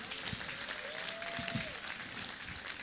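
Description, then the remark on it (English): A church audience claps steadily in a dense, sustained wash of applause as a clap offering to the Lord, with a brief whistle-like tone rising and falling partway through and faint low thumps underneath. “Give the Lord another clap offering.”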